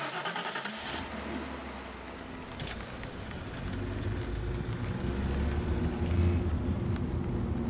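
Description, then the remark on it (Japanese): A car engine starts up with a sharp burst in a heavy downpour, then settles into a steady low rumble that gradually grows louder as the car pulls away and drives on. “じゃあ出発するね。”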